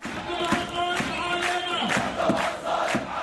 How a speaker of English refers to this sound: There are hundreds, maybe thousands of these videos, images that have come to define Syria's uprising, chanting crowds demanding an end to an autocratic regime.